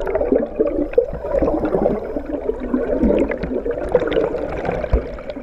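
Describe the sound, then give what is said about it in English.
Steady underwater river sound recorded by a kayaker on the Appomattox River in Virginia: a dense, continuous murmur of muffled gurgling and bubbling with scattered clicks and knocks, fairly loud and constant throughout, with no voices. “That underwater sound, recorded by a kayaker on Virginia's Appomattox River, opens an episode about how scientists and resource managers learn about the finned creatures that live underwater.”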